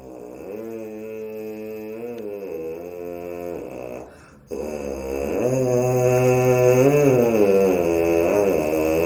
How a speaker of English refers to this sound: In other words, what does it sound like just our lips buzzing the way that we do? So I'll actually do something on the mouthpieces to show what that would sound like.